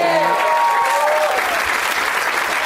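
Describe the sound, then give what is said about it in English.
An audience at a comedy show in Madison applauds steadily, a dense wash of clapping that stays loud throughout; a brief tonal sweep fades out in the opening second. “Let's not forget to give a round of applause”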